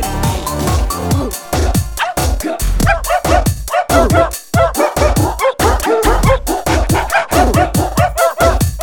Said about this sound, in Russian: Ну и дела, только пришла и встречает радостный лай. Так преданно смотрит и требует: поиграй со мной, поиграй.